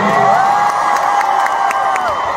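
A loud crowd in Brooklyn cheers and whoops for a contestant in a sustained burst, high voices rising together with scattered claps, continuous for the whole moment with no talking over it.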